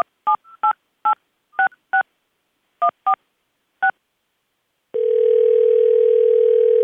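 Nine quick touch-tone beeps from a phone keypad dialing a New York number, pressed in an uneven rhythm, followed by a steady, unbroken dial tone that continues to the end. Clear, with no voices.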